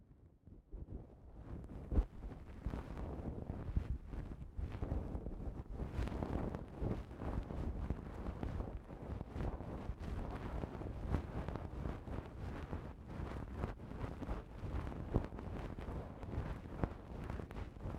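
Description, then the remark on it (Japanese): Steady rubbing of a towel wiping against the microphone after a shower, a soft continuous rustle with slight pulsing strokes that lasts throughout, with no voices. “あとはタオルで拭いますね。”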